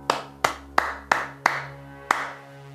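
Six sharp hand claps clapping back the rhythm of a sung phrase in a Clap It Back rhythm game: five quick, evenly spaced claps, then a short pause before a final clap, each ringing briefly over a steady low hum. No one speaks.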